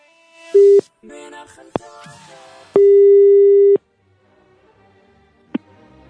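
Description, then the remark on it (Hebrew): A telephone ringing tone on the line as a call is placed to a number published in a newspaper ad: a steady, single-pitched electronic tone sounds once briefly, then again for about a second, with clicks and faint line noise between the rings. “בוא רגע ננסה למספר שפרסמו, נראה אם נתפוס אותם.”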